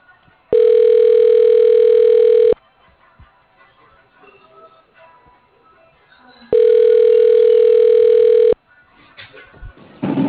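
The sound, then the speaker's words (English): A phone line rings twice, each a steady two-second electronic tone separated by a few seconds of faint background noise, loud as if heard through a handset; the call goes unanswered to voicemail. “Oh, I'm sorry, I can't answer my phone right now.”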